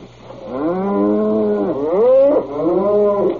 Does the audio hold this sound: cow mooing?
yes